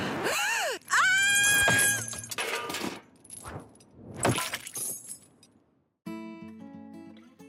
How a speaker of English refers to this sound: And we had, like, Helvetia, this is like the prominent Swiss figure, crashed by a wrecking ball.